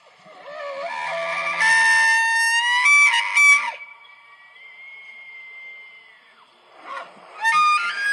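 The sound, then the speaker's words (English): A bull elk bugles in a loud, high, whistling call rich in harmonics, sliding up and holding a long steady tone, then breaking into shrill squeals and a second rising whistle near the end. “Guys, this is an elk. Watch your ears as you hear this.”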